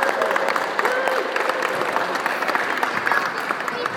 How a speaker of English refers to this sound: It's the first morning of the Rockets, the Robe Rockets, under sixes, eights, tens, and the girls. And it's great. I'd say there's probably 40 or 50 kids here. So I'd like to give a big clap to all the kids that came this morning.